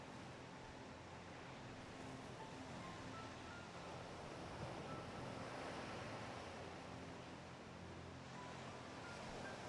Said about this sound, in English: As you stroll slowly into the sea with the waves lapping gently at your feet, the sound of the ebb and flow of the tide as it caresses the beach, a never-repeating signal for you to relax deeper.